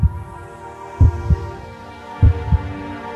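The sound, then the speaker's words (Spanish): A steady heartbeat thumps in low, muffled pairs, lub-dub, repeating about once every second and a quarter: the first beats of a transplanted heart during a heart transplant operation in Mexico, clear over a faint background hum with no voices. “Y por fin tuvieron la fortuna del primer latido y cambió totalmente el panorama.”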